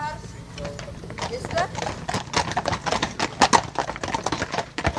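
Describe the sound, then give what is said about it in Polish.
Hooves of police horses clip-clop steadily on a hard surface as the horses move, a run of sharp irregular knocks over a low rumbling background. “Te konie można przywiązać, jak widzieliśmy dzisiaj, na zewnątrz, przygotować te konie, uzbroić.”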